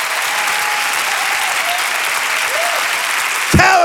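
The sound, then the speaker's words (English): A church audience claps hands at the preacher's call, a dense, continuous wash of applause for the whole stretch, with faint voices beneath it and a sharper, louder surge with a rising tone right at the end. “Clap your hands like he's able.”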